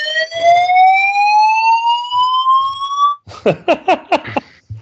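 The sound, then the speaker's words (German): A loud fire alarm in New Zealand: a steady electronic tone slowly rising in pitch for about three seconds, then breaking into a quick series of about six harsh, pulsing blasts. “Feueralarm in Neuseeland.”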